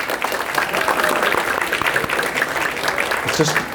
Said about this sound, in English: Wasn't that food wonderful? Every week it's just great. Yeah, round of applause, come on.